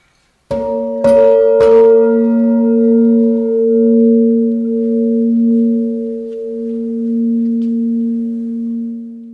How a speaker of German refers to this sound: Und wenn man möchte, darf man in dieser Ausstellung das Kunstwerk sogar anfassen. Man kann also das Material von Holz und Metall fühlen und darf diese Glocke auch schlagen.